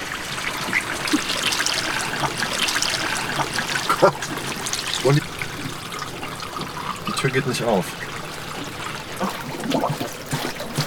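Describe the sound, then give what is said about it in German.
Water trickles and gurgles steadily as it floods into a car interior, a continuous flow with occasional splashes, while a person speaks over it now and then. “Mit dem Wasser steigt auch meine Angst.”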